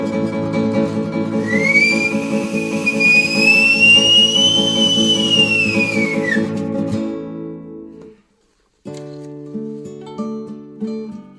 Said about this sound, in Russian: Видят немцы, задрожали дубы столетние, от свиста на дубах листы валятся. Побросали немцы шапки свои медные. Испугались, о, свисту богатырского.